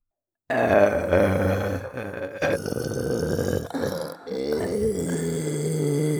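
A long, loud, drawn-out burp recorded up close, rumbling deep and throaty for several seconds with a few brief catches before trailing on.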